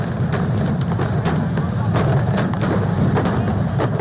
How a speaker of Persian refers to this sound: این در حال است که هند دوشنبه 20 اکتبر جشن فستیوال روشنی یا دیوالی را برگزار کرد، جشنی که در آن نه تنها سراسر کشور چراغان بود بلکه مردم تا نیمه های شب آتش بازی کردند.